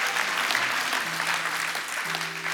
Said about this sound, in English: You can clap, it's okay. Some of y'all have never clapped about money.